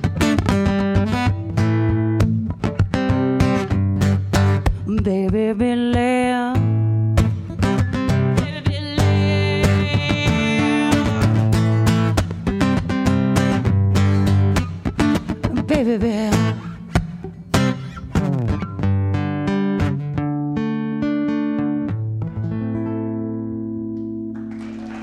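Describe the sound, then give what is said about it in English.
A funk song plays loudly with a sung vocal over a driving, punchy groove of bass, guitar and percussion, the music continuing steadily before easing slightly toward the end. “That was a new funk when you were, this is old funk when you were”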